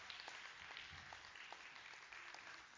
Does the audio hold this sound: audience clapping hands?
yes